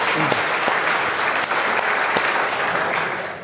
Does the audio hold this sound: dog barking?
no